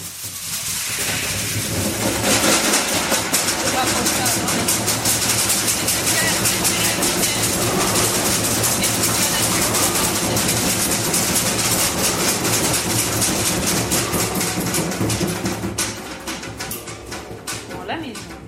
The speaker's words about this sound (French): Les premières gouttes se mirent à tomber. Puis se transformèrent rapidement en pluie diluvienne. L'orage grondait au loin.